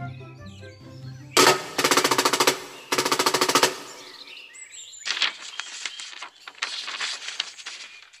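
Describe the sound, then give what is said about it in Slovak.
Two loud bursts of a rapid, rattling drum roll, each lasting about a second, followed by a quieter stretch of fluttering, uneven rattles with faint high chirps in the background. A town crier's drummer, sent by the mayor, drums to announce news on the square in Sečovce. “Keď prešovskí zvonoliári došli do Sečoviec, hneď bubeník pod Richtár utekal oznámiť túto správu priamo na námestie.”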